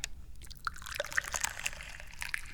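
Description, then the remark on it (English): Tea pours steadily into a cup, a continuous trickle broken by small bubbling splashes and gurgles for a couple of seconds, with no voices. “And basically that just means that I'm the guy who pours the tea.”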